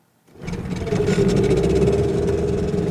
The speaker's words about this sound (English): A long wooden boat takes off from the shores of the Usumacinta River in Guatemala. I'm packed in with single men and women with children.